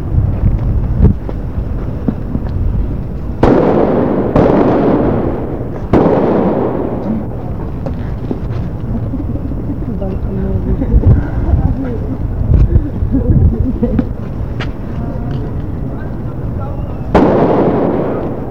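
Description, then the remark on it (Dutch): Fireworks and firecrackers being thrown and going off outdoors while Christmas trees are being thrown away: a cluster of loud booming bursts with rumbling tails, scattered sharp pops between them, then another big blast near the end, with faint voices in the background. “Op dit moment worden nog steeds kerstbomen weggegooid en het vuurwerk gegooid.”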